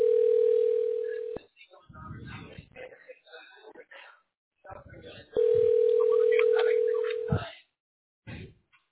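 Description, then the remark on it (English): A phone line's ringing tone sounds twice in long, steady bursts, loud, with muffled talking heard in the gap between the rings and just after. “And then he said, the phone is ringing now, but it's closed.”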